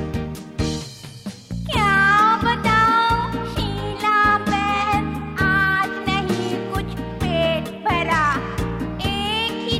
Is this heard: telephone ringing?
no